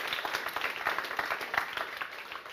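A crowd applauds a teaching pastor, many hands clapping steadily in a dense, continuous patter at moderate volume with no voices over it.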